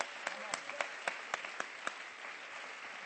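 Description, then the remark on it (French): A crowd applauds the pastors and servants of God present in the hall, a steady wash of clapping at a moderate volume. A few sharper individual claps stand out at an irregular rhythm over the dense patter. “On peut les applaudir. Can we applaud them?”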